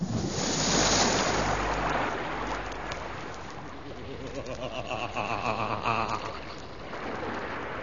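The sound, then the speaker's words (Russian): Sea waves surge and wash continuously, a broad roaring hiss that swells loudest early on and then settles into a steady rolling wash, with a faint wind-like rush. “нас в бочку засмолили и бросили в синее море.”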